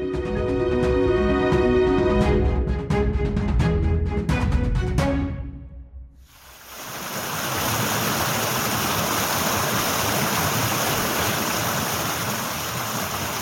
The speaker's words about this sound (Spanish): Con el río Jarama de fondo, entre Madrid y Guadalajara